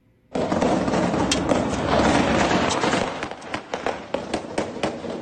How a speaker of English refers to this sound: In Caracas, the capital of Venezuela, shots ring out in the streets.